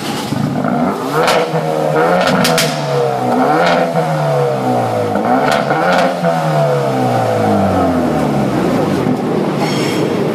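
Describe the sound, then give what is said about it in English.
A front-wheel-drive car with a six-speed manual gearbox (about 203 kW, 353 Nm) is started and its engine revs hard several times, its pitch climbing and falling in repeated loud sweeps, with no one talking. “And I'm going to duck over to the car and just start it up.”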